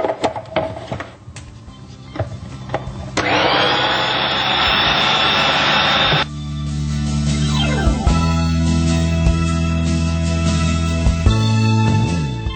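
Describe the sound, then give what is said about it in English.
A food processor blends steamed carrots, pushed down so they all get processed: some clattering, then a loud rushing whir for a few seconds, settling into a steady, low humming motor drone whose pitch shifts slightly as it runs. “I'm just going to push the carrot down so it all gets processed.”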